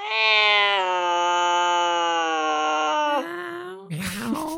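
A single long, drawn-out cat meow, loud, holding a steady whining tone for about three seconds before breaking into a rougher, scratchier ending.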